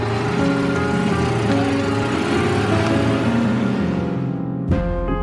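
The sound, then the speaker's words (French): A Citroën 2CV engine runs steadily with a loud, buzzing putter, then shifts abruptly near the end as if revving or changing gear; no voices are heard. “Elles ont reconnu le son caractéristique du moteur d'une Citroën 2 chevaux.”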